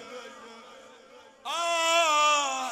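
Mourners wail in drawn-out, mournful voices, starting moderately and swelling abruptly louder halfway through into a sustained, high keening cry.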